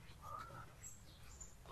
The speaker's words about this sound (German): Hört ihr die Vögel? Oder hören nur wir das Gezwitscher? Schön ist es, oder? Es ist halt wirklich idyllisch.